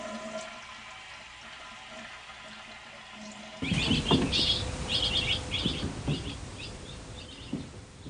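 Shrill chirps of baby birds in a nest inside a bathroom air vent come in quick clustered bursts, heard over a loud rushing, flushing water noise that starts suddenly after a few seconds of low, steady hum.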